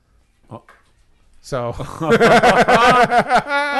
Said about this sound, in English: It's the official appearance of the Crespo cat. The Crespo cat made an appearance. See, I told you the Crespo cat. He's there.